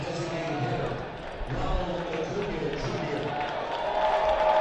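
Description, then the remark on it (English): A large crowd at 121 Financial Ballpark roars and cheers continuously as the rehabbing Ronald Acuna Jr. steps in to bat, a dense wash of many voices that swells slightly louder toward the end. “And that big roar from the crowd here at 121 Financial Ballpark means that it's time for the rehabbing Ronald Acuna Jr. to step in.”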